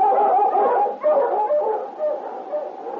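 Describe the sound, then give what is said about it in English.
A sled dog team barks, yips and howls together in a dense, continuous chorus, loud, with overlapping voices rising and falling without pause. “And then, leaving his dog team outside, he and King went through town making inquiries about Fred Olton, but learned nothing.”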